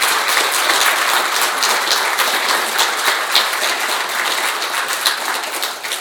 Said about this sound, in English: But I would love for us just to give her an applause for all the wonderful work she's done.